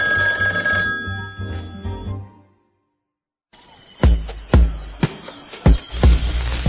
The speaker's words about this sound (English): I hear something. The phone is ringing. My first call.